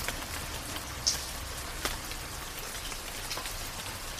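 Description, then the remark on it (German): Steady rain falls, a dense wash of patter with a few sharper drops landing distinctly now and then. It holds at a moderate, even intensity throughout, with no voices. “Sanfter bis kräftiger Regen, perfekt geeignet zum Einschlafen, für die Meditation oder für Wellnessbereiche.”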